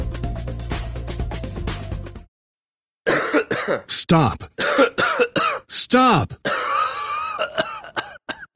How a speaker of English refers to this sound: Stop. Had enough? Kick out mucus and quiet the cough with Mucinex 12-Hour DM for long-lasting cough and chest congestion relief.